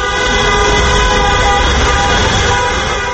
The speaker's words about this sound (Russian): Проезжавшие мимо автомобилисты приветствовали их гудками.